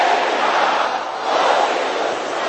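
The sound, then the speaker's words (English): An audience at a prayer service roars and shouts together in a loud, sustained din, swelling briefly after a slight dip in the middle, with no single voice standing out. “Can I hear you roaring like thunder?”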